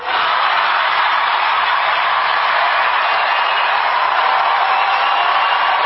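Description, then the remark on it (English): An enthusiastic crowd roars at a rally, a loud, unbroken wall of cheering that holds steady for about six seconds with no single voice standing out. “As I've said before, the only times I've heard roars like that, Obama, Bernie, Trump.”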